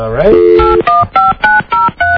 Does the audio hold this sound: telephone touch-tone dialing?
yes